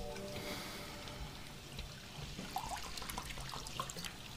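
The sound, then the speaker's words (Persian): Water pours steadily into a glass for drinking, a continuous splashing trickle lasting a few seconds with small gurgles near the end, and no one speaking. “آب نخور اینقدر بابا، کار دستمون میدی.”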